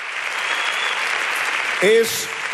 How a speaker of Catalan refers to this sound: Crec que l'aplaudiment diu bastant, també, de com ha agradat la pel·lícula de Carla Simón.